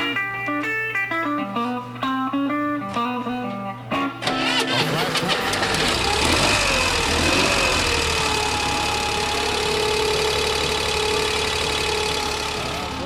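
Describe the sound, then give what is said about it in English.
The engine of a modified Corvair prototype idles in economy mode with a steady, rumbling drone that holds evenly for several seconds, preceded by a short run of stepped, tonal notes in the opening moments. “Okay, now this is in the economy mode, and you can listen.”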